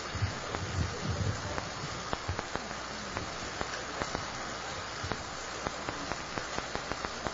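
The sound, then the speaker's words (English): Strong wind rushes steadily at Woodlawn Cemetery on a sunny day during a graveside service, with low buffeting gusts near the start and scattered sharp crackles and ticks, like leaves or debris being tossed about, throughout. “And like we said, very windy here at Woodlawn Cemetery, but the sun is shining.”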